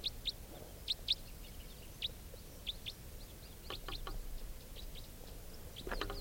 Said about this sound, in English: Flying towards the songster. Now up in the same tree. Stop. Recording the wild birds again.